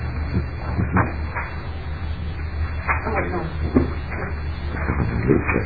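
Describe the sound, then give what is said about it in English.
Papers rustle and shuffle in a series of short, uneven scrapes and taps, over a steady low hum with faint murmuring in the background, as a representative arranges his papers during a legislative committee meeting. “Chair, let me just arrange my papers here for a second.”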